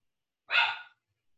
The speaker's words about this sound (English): Yes, the dog wants to say hello, Finn. And actually, the dog's name is Finley. Hang on a second. He actually gets quite upset when he doesn't get to come in.